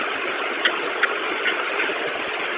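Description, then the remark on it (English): Steady street traffic at a bus stop on 6th and Clay, with a constant engine rumble like a vehicle idling, broken by a couple of faint, quick clicks. No one speaks. “Now I'm at the bus stop on 6th and Clay.”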